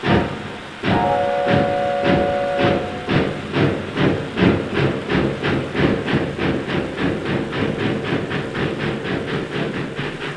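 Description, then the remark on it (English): A steam train bound for Blackpool pulls away: a short whistle sounds near the start, then loud, steady chuffs repeat in a driving rhythm over a constant hiss, with no voices. “However, off I goes with a bacon sandwich in me hand and just scrambles on train just as it started.”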